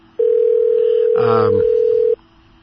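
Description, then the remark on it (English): A steady, loud telephone tone hums for about two seconds as a call is placed to someone, with a brief burst of voice over it partway through before the tone cuts off abruptly. “I'm ringing him.”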